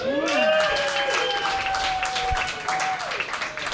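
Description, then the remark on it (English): An audience at a stand-up comedy set claps politely and steadily for a few seconds, the dense patter of hands holding at an even level, with a few high whoops and cheers rising above it. “Your polite applause feels just as good as getting drunk used to.”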